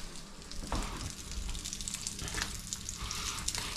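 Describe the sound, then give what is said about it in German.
Food that has been evenly dusted sizzles steadily in a hot frying pan, frying for 3 to 4 minutes per side, a continuous crackle with occasional louder pops and a soft scrape or two, no voices present. “Wenn du siehst, dass das überall einigermaßen gleichmäßig bestäubt ist, dann rein damit in die Pfanne. Dann hörst du es auch schon brutzeln.”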